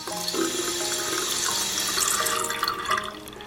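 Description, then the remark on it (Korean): Water runs steadily into a cooking pot, a continuous hissing splash with resonant tones that shift as the pot fills, lasting a few seconds with no voices. The pot is being filled with plenty of water to boil for making aglio e olio pasta. “우선 냄비에 넉넉히 물을 넣고 소금을 한 꼬집 넣어 끓여.”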